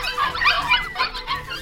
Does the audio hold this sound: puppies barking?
yes